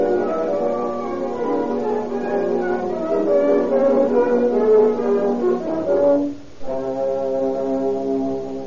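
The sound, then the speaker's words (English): An ambulance siren wails steadily with a rich, horn-like tone as the ambulance arrives to take a wounded man to hospital, its pitch gliding slightly up and down, sounding loud and continuous apart from a brief dip before resuming. “Here comes the ambulance now.”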